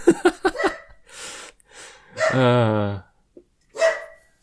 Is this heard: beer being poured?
no